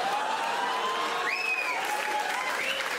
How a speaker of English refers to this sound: That was a round of applause from the French-Canadian women that will do fucking everything.